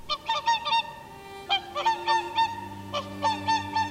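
Some thirty whooper swans, taking off from a shore meadow at Tysslingen and flying over the lake, call in three quick bursts, each a run of several bright, nasal, trumpeting honks. A low steady drone runs faintly underneath in the second half.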